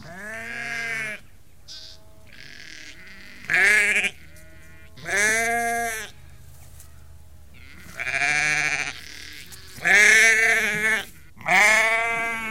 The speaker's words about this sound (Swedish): vi står här och tittar på får också, samtidigt precis. Som vi hör deras bräkanden.